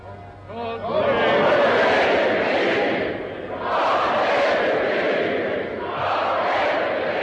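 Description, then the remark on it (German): A large crowd of spectators cheers and roars loudly and continuously as the royal couple waves and greets them, swelling in waves of excited shouting that rise, dip briefly, and surge again, filling the space with dense sustained acclaim. “Und ein Jubel, ein Sturm der Begeisterung geht hier durch die Zuschauer.”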